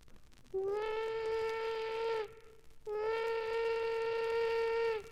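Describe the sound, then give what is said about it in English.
The steam whistle of a big old-time steam locomotive sounds two long, steady blasts, each about two seconds, with a brief gap between them; loud, rich and sustained, with no voices present. “This is the big locomotive of yesteryear, the one with the steam whistle.”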